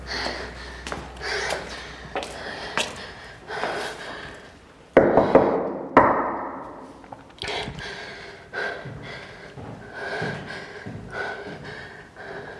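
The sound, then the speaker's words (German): A series of sharp knocks on the door of a top-floor attic apartment in an apartment building, coming in irregular clusters over several seconds with a few louder thumps in the middle and no voices. “Also habe ich einfach mal geklopft.”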